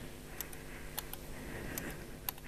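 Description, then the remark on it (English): Telegraph key clicking as it is used to change presentation slides during a talk: about four quick pairs of sharp mechanical clicks, press and release, spaced irregularly over a steady low hum, not very loud, with no one talking. “Just for fun and because it's a bit on theme, I've got two telegraph keys. One makes the slides go forward.”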